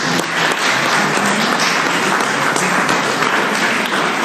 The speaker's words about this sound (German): Da begrüße ich den Jörg Denninghoff, unseren Landrat, heute hier bei uns. Vielleicht einen Applaus für Herrn Denninghoff.